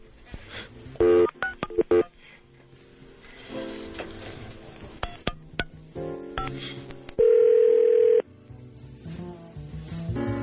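A series of short telephone keypad tones beeps in quick bursts as a call is dialed back to a front desk from WRIF Radio, followed later by a longer steady electronic tone, all fairly loud over a busy, music-like background.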